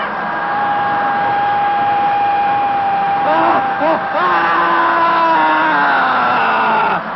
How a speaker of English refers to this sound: The next phase, the screaming phase of dynamic meditation, feels like when you finally had an opportunity to throw a tantrum when you were a little kid.